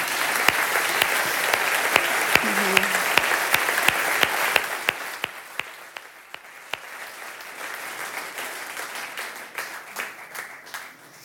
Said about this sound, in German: Ich bin euch furchtbar dankbar. Vielleicht möchtet ihr einfach eure Dankbarkeit mit mir ausdrücken und einmal einfach klatschen.